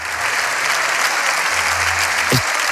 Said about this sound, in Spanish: Este es sonido directo del Congreso de los Diputados, los aplausos a la intervención del líder de la oposición.